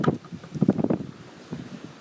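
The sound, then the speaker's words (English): Gusty wind buffets the microphone in uneven bursts, a low rumbling whoosh that swells and fades several times over a couple of seconds, with no voices. “Oh, is it going to get windy again?”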